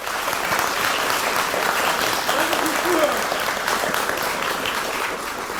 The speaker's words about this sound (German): Mega interessant. Vielen Dank. Nochmal Applaus.